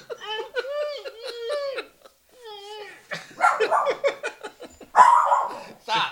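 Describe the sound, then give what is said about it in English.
A drawn-out whiny howl gives way to a quick run of sharp barks, loud and irregular, ending in a couple of louder yelps. “Stop. Bark before I give you something to bark about.”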